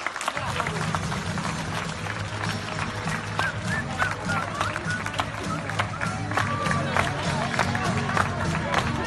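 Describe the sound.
Nurses and staff of the IFEMA field hospital applaud and cheer steadily, dense clapping mixed with shouts and voices, with music playing underneath throughout. It is the last 8 p.m. applause of the coronavirus period, the day before the field hospital closes.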